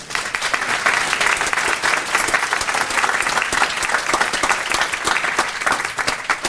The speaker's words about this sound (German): Und auch da schon mal danke an die Leute, die sich das hier Zeit genommen haben und auch Zeit dafür opfern, Vorträge und Workshops anzubieten. Ganz großes Applaus schon mal dafür, hätte ich jetzt gesagt.